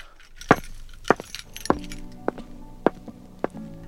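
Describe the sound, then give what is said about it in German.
Car keys clink six times at a steady, even pace, each a sharp metallic tap with a brief ringing tail, against quiet background with no talking. “Autoschlüssel.”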